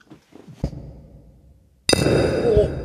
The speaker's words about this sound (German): Oh, das tat aber schon ein bisschen in den Ohren weh, ne? Ja, wir haben, also ich habe auch das Einschenkmikrofon gerade ein bisschen gegen das Glas geschlagen. War Absicht.